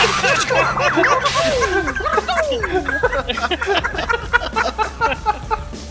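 Sharp whip cracks snap repeatedly in quick succession, loud and close, over a high, swooping whistle-like tone that slides up and down.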